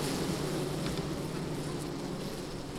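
A dense, steady hum of many honeybees buzzing close up inside an opened hive, recorded with a microphone placed right next to the hive. A continuous low drone with no pauses and no voices.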